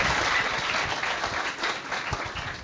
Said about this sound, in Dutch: Ja, geef ze even een applaus, want